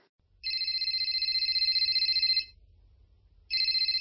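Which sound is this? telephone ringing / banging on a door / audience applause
telephone ringing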